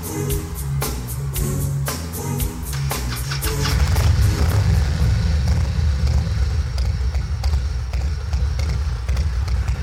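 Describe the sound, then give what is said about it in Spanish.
A motorcycle engine roars up loudly and keeps rumbling as it rides down through the middle of a stage, after a few seconds of sharp clattering knocks and a low droning tone. “Soroll d'una moto que baixa corrents pel mig de l'escenari”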